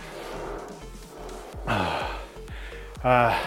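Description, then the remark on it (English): Heavy, labored breathing after a workout interval, with loud rasping breaths repeating roughly every second or so, gasping inhales standing out near the end. “So it's gone up. Breathing rate's up. Heart rate's up.”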